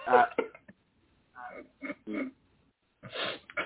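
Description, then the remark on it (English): A sneeze fit: sharp breathy bursts and gasping catches come in three separate spurts with short silences between, fairly loud and with no talking over them. “Oh, shit. I had to sneeze.”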